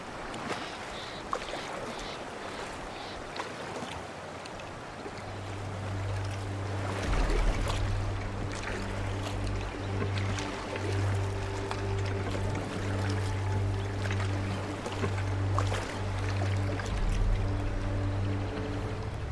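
Water sloshes and splashes as an approaching boat's engine drone swells in after a few seconds, then holds a steady low hum over the continuous wash of water. No talking.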